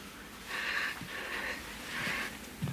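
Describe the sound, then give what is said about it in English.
Heavy, raspy panting breaths, three long airy pulses in a steady rhythm, fairly loud, with no talking over them. “Kind of let the panting play out.”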